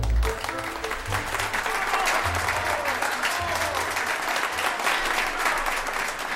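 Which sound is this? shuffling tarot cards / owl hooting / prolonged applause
prolonged applause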